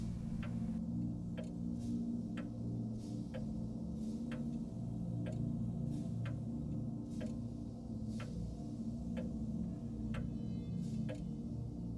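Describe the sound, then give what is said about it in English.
A clock ticks steadily, about one tick per second, each tick a sharp, clear click over a low, constant hum. “People pass, so do clocks.”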